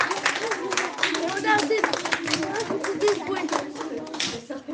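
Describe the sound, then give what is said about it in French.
An audience claps steadily for about five seconds for a 10-year-old schoolboy guest who has just introduced himself, a dense, even patter of many hands, with a few voices calling out faintly beneath the applause. “Ok, bah oui, vous avez applaudi le premier, il n'y a pas de raison, applaudissez le second.”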